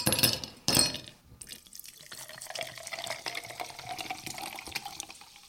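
Sparkling mineral water is poured into glasses, starting with a couple of loud splashy gushes, then settling into a steady fizzing trickle with small clinks and drips, with no talking.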